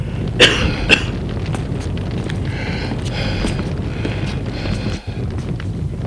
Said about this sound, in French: Elle a la respiration très forte. Énervée.